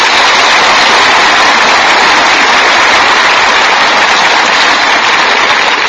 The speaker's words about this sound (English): Thank you. I'm going to accept your applause tonight for Dr. Christian.